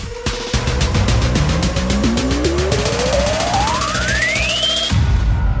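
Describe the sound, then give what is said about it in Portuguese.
An electric car weighing over 2 tonnes, which goes from 0 to 100 km/h in under 4 seconds, accelerates hard, its motor whine sweeping steadily upward in pitch over loud, rough road and tire noise with some squealing, before cutting off abruptly near the end. “Esse carro faz de 0 a 100 abaixo dos 4 segundos, pesando acima das 2 toneladas.”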